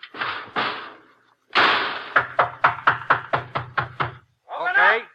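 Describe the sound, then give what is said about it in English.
A door is shut with scraping bumps, then a quick, even run of about nine sharp clunks as it rattles into place. A brief voice-like sound follows at the end. “Okay, get in that lock and close the door.”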